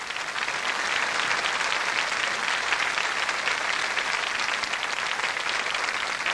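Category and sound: crowd, audience applause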